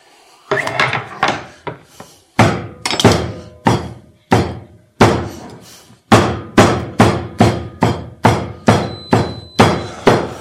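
A small hatchet chops meat by hand instead of using a meat grinder, over and over with sharp, woody thunks, irregular at first and then a steady, brisk rhythm of roughly two blows per second, loud and with no talking.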